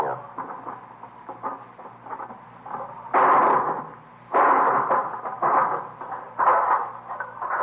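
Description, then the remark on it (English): A hammer is used to break the lock on a box, making a series of sharp metallic knocks and rattling clatter, soft at first and then in several louder bursts. “Let me give you that hammer. Yeah. You gonna break the lock?”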